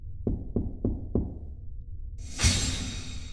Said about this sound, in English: As the Combination Memorial and Group Bitch Session continues in the bioswamp, at Airlock 56, there's a quiet knock on the door.